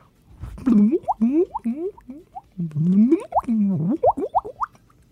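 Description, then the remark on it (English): A quick series of hollow water plops, each one a bubbly upward-bending blip, arriving in two rapid bursts of about a dozen drops with a short pause between them, made by a man with his voice into a microphone without effects. “I love the water, water sound.”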